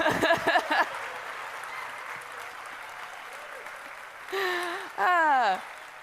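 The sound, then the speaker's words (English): A large crowd at the EMF festival applauds loudly and steadily after a world-record Tower of Hanoi solve, with a burst of cheering at the start and a couple of drawn-out whoops near the end. “An applause so raucous that my PowerPoint absolutely crashed.”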